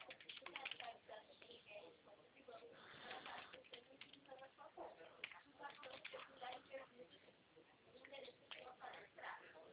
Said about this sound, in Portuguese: Estou digitando, tá? Eu tô muda, mas eu tô na linha.